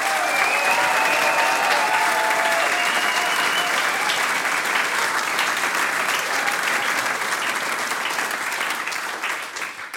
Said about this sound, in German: Schein, dass ihr heute da wart. Applaus.